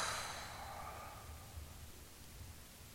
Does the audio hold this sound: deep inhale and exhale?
yes